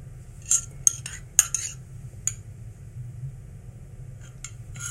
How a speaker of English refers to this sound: But yeah, let's get another tea sip.